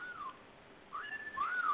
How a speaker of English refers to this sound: Is there someone whistling at you in the background? That's my cell phone. That means I have a message. Oh, I thought that you had a bird. Everybody looks around when my cell phone goes off.